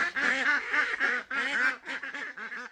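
Egg-laying ducks kept along Mitkoff Highway quack in quick, overlapping bursts, several birds calling in a steady chattering run with brief pauses between groups of nasal quacks.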